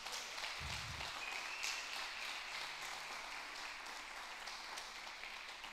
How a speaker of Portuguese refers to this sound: Você pode dar um aplauso a Ele por isso?